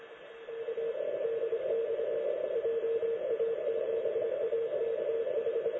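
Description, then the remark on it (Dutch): An amateur radio station, call sign JA7AKH, comes through a receiver as a steady, mid-pitched tone over constant band-limited static hiss, holding at an even level throughout with no voices. “Ja hoor, ik hoor hem.”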